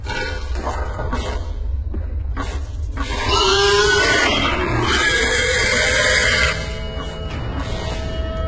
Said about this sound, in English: I must warn you, this clip will contain pigs, so I hope you're ready.